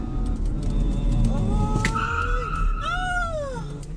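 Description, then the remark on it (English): A driverless car, left in drive after its driver got out, rolls down an avenue into oncoming traffic with a steady low rumble, while two drawn-out, wavering squeals rise and fall over it. No one speaks. “And if you're just listening, she decided, I don't want to drive this car anymore. Kept it in drive, send it down the avenue.”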